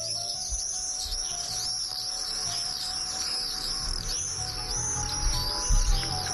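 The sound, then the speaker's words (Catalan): Shrill, high-pitched screaming calls of common swifts, migratory birds that return each year around May from southern Africa and the tropics to nest on roofs in the city, repeat in quick, overlapping bursts throughout, fairly loud and steady, with a faint low rumble underneath and no voices. “Sabies que ja han arribat els falciots?”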